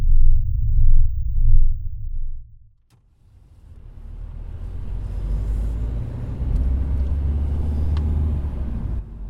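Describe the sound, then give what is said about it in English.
A car driving through city traffic on the way to warehouses: its low engine rumble drones, drops out for a moment, then returns as steady traffic noise with a broad road hiss and clatter. No one speaks. “With today's traffic, we should be there in 15 to 20 minutes.”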